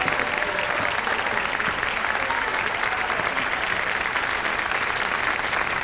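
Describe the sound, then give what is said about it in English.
An audience at a student Christmas stage show applauds steadily, a dense wash of clapping hands that stays loud and even from start to finish, with no voices standing out. “join the audience as they applaud.”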